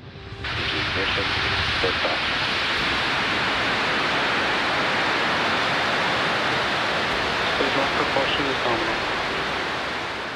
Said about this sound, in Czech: Července v 17 hodin a 12 minut našeho času zaburáceli na floridské rampě číslo 40 motory rakety Falcon 9.